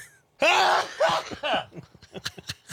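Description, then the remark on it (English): A loud, wet sneeze bursts out after a brief silence, followed by a scatter of short breathy, sputtering sounds as it trails off. “I had a really disgusting wet sneeze that we shared with all the listeners.”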